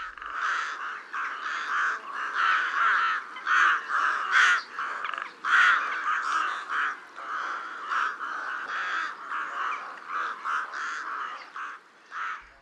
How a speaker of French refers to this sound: Les cris du corbeau freux sont rêches et nasillards.